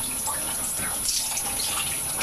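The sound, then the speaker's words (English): Hot tap water runs steadily into a sink as a person rinses their face after taking off makeup, a continuous hissing splash that stays even for a couple of seconds with no voices over it. “Gosh, the water's hot on us.”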